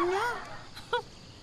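schnauzer dog barking

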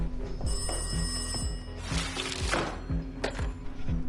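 telephone bell ringing

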